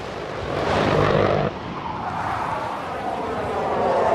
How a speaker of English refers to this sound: Chaffin and Manimal watch a plane roar overhead.